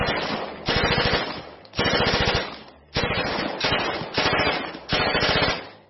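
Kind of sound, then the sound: sound effect, gunshots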